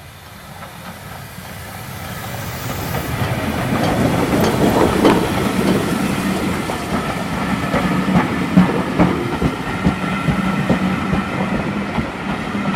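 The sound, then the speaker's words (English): A steam train rumbles past on the tracks near the Trinity Reservoir, building to a loud roar with rhythmic clatter of wheels and hissing steam, no voices. “Oh, look at that steam making.”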